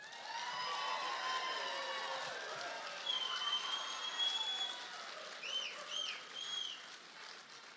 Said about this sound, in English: Thank you for your kind applause, and we welcome both of our candidates